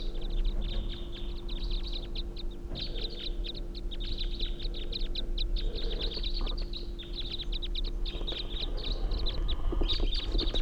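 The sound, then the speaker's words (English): A flock of five wild birds calls continuously, with dense overlapping chirps and high calls, flying right over a truck near a tall spruce tree. A steady low engine-like hum runs underneath, and nobody speaks. “Sounds like a whole flock now.”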